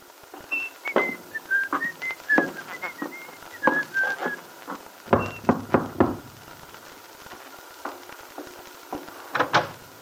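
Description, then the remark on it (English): A man whistles a bright, bouncy tune of short rising and falling notes as he goes up the shallow steps of a little house in the Wakefield Auto Court, broken up by a few sharp knocks near the middle and end, like rapping on a door. “Whistling cheerfully, Billy went up the shallow steps of Bill's little house”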